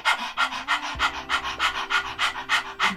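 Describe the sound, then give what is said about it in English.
A person demonstrates the breath of fire breathing technique by imitating a dog panting: quick, breathy huffs repeating steadily about four times a second, fairly loud, with no talking. “It's the breath that dogs use, the technique when they're panting. They're doing it like this.”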